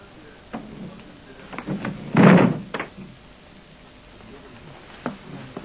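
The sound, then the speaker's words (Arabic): The door of a house swings shut with a solid thud, preceded and followed by softer knocks and shuffling handling sounds. “أغلقوا الباب.”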